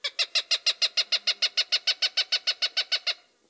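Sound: cooper's hawk call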